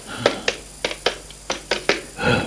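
A telephone number being dialed to call a doctor: about eight crisp, clicking button presses in an uneven rhythm, followed by a brief soft burst of noise. No one speaks.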